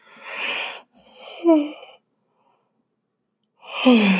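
yawning

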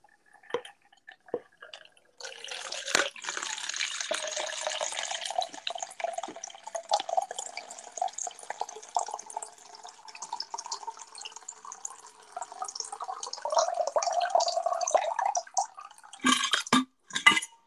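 water poured

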